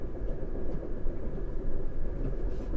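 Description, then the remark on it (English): A train bound for Bournemouth rolls steadily along the rails, a continuous deep rumble with no voices, holding an even, moderately loud level throughout. “I prepared some reading for the train journey, a little book on UFO research.”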